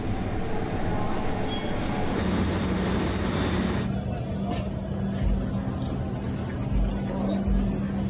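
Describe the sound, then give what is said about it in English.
A New York subway train rumbles past, a loud, steady roar of wheels and clatter that shifts halfway through into a lower, humming drone with occasional thumps. “Now, I'm from New York, and I've seen some huge rats. Ugh, especially under the F train at West 4th Street, eh?”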